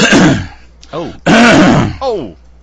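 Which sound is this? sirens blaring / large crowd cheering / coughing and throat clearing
coughing and throat clearing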